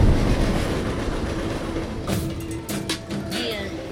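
A heavy freight train rumbles past, its wheels clattering over the rail joints in a steady clickety-clack, with sharp metallic clanks and a faint squeal near the end.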